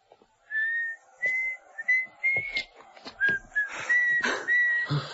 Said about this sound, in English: That lady down there whistling. You believe it?